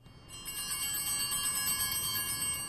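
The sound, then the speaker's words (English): Small handheld paletero cart bells jingle rapidly and continuously, a bright rattling shimmer signalling a street vendor selling paletas (Mexican frozen fruit treats), steady for a few seconds with no talking. “These bells mean paletas are around the corner.”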